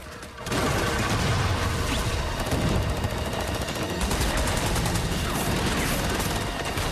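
sound effect, gunfire

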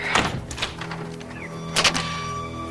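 household object, door being opened

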